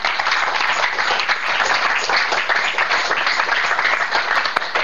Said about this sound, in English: Let us give Jesus a clap offering.